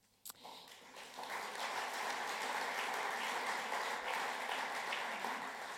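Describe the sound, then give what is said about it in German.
A crowd applauds the drummers who performed at the event, a dense wash of many hands clapping that swells after a brief sharp clap at the start and holds at an even, fairly loud level throughout. “Das heißt, vielen Dank an die Trommler, die auch eben ja schon mit dem verdienten Applaus belohnt worden sind.”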